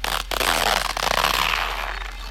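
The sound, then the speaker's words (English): A zipper is drawn open in one long, continuous rasp, with a brief catch near the start, lasting about two seconds with no voices. “Unzipping seems to take forever.”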